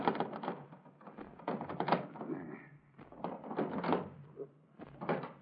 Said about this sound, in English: Well, they must still be in there, then. I'm going to shake the doors.